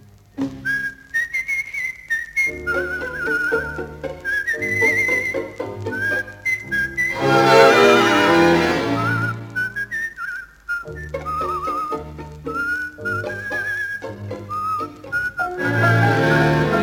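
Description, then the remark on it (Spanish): A clear, tuneful whistled melody carries over a full instrumental accompaniment, a brooding man wavering through a flowing song line with no voices. “Y cruza el cielo el aullido de algún perro vagabundo, y un reo meditabundo va silbando una canción.”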